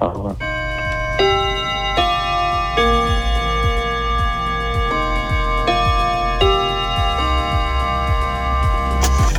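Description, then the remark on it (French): A cuckoo clock chimes the hour on Radio Bonheur at 20:01 (8:01 pm): a slow melody of sustained, ringing bell-like tones changing every second or two, over a steady, rapid ticking underneath. “Au carillon, au coucou de Radio Bonheur, il est 20h01.”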